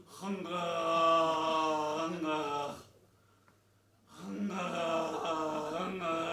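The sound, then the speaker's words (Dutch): A voice imitates the rattling, snore-like throat noise of a man asleep in a reclining chair: two long, drawn-out throaty rasps, fairly loud, separated by a brief silent pause. “En dan kon ik horen, want dat was niet echt snurken dat hij deed, dat was een soort roch geproduceerd zo.”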